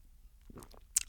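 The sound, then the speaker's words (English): Someone takes a water break after about two hours of jiu-jitsu, drinking water: a few soft, wet gulps and swallowing sounds in quick succession, ending with a sharp little mouth click as the drink finishes. No one speaks. “Water break.”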